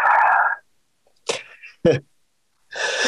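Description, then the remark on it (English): A single sharp sneeze with a quick springy, bouncy quality like a cartoon boing, loud, set between bursts of louder noisy sound before and after. “That's why I decided to come up with a game show, is that my sneezes sound like a boing.”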